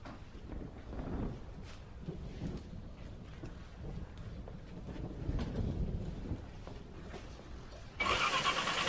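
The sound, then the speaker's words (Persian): The engine of a car that is acting up cranks and sputters unevenly, struggling to start, with low rough rumbling throughout and a sudden louder burst of noise near the end, with some wind. “ماشین نمیدم چه شایی بازی در میاره. نرسته من برم تعمیر کنم.”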